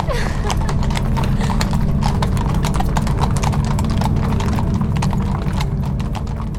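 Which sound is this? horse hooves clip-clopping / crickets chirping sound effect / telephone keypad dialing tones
horse hooves clip-clopping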